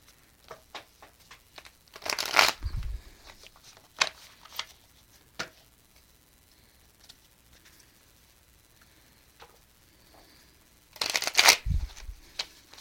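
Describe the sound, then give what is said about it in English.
Two quick bursts of card shuffling, a riffle at the start and another near the end, each a sharp papery rush, with scattered light clicks and taps of cards being handled in between. “All right, let's throw a few cards here for the birthday girl.”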